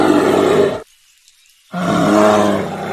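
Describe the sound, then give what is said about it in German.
A black bear in the forests of British Columbia roars twice, loud: a long, rough, throaty bellow, a brief silence, then a second deep, grinding roar. No one speaks. “Und wirklich angenehmer als der Grizzly vorhin klingen die auch nicht.”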